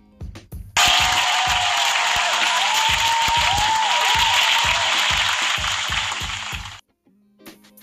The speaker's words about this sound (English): …, thank you. Fucking round of applause for fucking ….